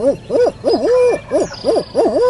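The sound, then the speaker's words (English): A hunter on a mountain ridge in the early morning imitates an owl's hooting call, a loud series of rhythmic, rising-and-falling hoots repeated about six times in quick succession, with no talking. “I pause to owl hoot.”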